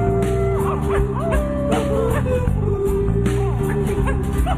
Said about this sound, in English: Heavens, there's seven dogs. How did we get seven dogs? Wait, there's eight dogs. I am feeling faint, dogs.